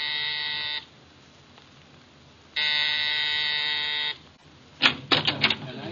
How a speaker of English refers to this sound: Exactly 7, I rang Mrs. Collins' doorbell.